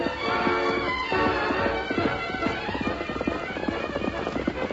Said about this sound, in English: Rein up there! Stop that horse!